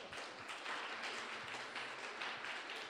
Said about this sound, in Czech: Tak, to je ten obraz, můžete si sednout, vy můžete zatleskat.